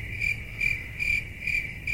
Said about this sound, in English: You guys couldn't hear it, but it's cricket sounds I was just playing. No, I heard it. You heard it?